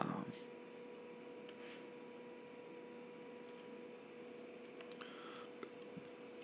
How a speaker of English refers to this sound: Sorry if there's some static heater on right now, so my dog doesn't bark even more.